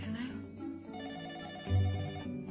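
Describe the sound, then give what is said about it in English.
A telephone rings in short repeated bursts, fairly loud, layered over a sustained tonal musical background; a phone call at 5 o'clock in the morning on Wisteria Lane. “It was 5 o'clock in the morning on Wisteria Lane when the phone calls started.”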